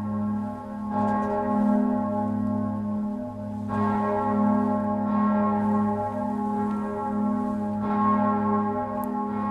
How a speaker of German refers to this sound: Das hören wir uns doch einmal an. Zuerst, wie es tönt hat vorher, bevor der Klöppel ausgewechselt ist. Das ist Berner Münster, Mittagsglocke.